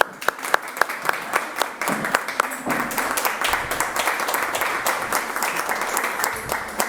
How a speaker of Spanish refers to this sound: Un aplauso.